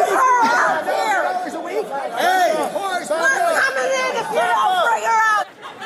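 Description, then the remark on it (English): During the January 6th insurrection, a large crowd of armed MAGA supporters yells and shouts at the Capitol building, demanding Nancy Pelosi. Dozens of raised voices overlap into a loud, continuous roar that holds steady for several seconds before abruptly dropping away. “During the January 6th insurrection, throngs of armed MAGA freaks screamed at the Capitol building to send over Nancy Pelosi or else they'd come inside and get her.”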